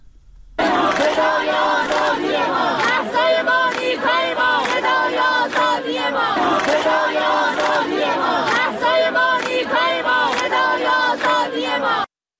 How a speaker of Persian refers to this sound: ظاهرا یک چیزی هم از تهران برامون داری، صدایی صدای دانشجویان دانشگاه تهران رو میخواستم پخش کنم. بله حتما.